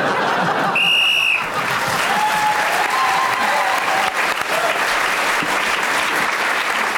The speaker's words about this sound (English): Well, Tony Hawk's a lovely line, and as the whistle went, got another point.